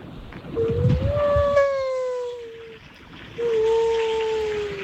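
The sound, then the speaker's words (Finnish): A person imitates a humpback whale while walking outdoors, drawing out two long, wavering moaning tones with a brief pause between them, loud over a low rumble of traffic in the background. “Meidän …, se painelee tuolla kuule jalka käyttävää ja pistää kuule ryhävalasta soimaan.”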